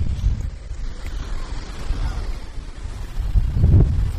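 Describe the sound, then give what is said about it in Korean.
Ocean waves wash and rumble beneath steady gusting wind, a broad low roar that swells near the end into a louder surge of surf, at the beach of the Outer Banks. “바람 소리와 섞여 있는 파도 소리.”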